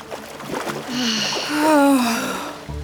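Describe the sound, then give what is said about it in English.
A splash as someone dives into water on a very hot morning at sunrise, followed by churning, rushing water while a voice lets out a drawn-out exclamation. “I'm diving in.”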